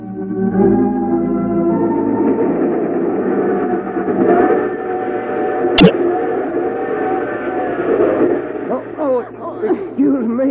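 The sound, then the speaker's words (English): A steady rumbling rattle of a moving train fills the scene, with a sharp jolt partway through, while voices murmur faintly underneath. “I was just going to get me a drink of water and a train lurch.”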